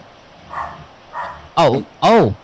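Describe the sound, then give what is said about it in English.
A dog that hears something barks four times: two soft, muffled woofs followed by two loud, sharp barks in quick succession. “No, he hears something and he's barking.”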